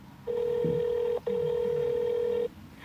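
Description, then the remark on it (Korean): A telephone rings on the line as a call goes out to a car insurance company (Hana Insurance) to ask for help: a steady, buzzy electronic tone holds for about a second, breaks briefly, then sounds again, clear with no talking. “일단 자동차 보험회사에 전화를 걸어 도움을 청하기로 하고 보험회사에 전화를 합니다.”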